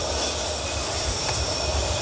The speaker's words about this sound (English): All right. Let's wait for this train to go past and we'll have a listen.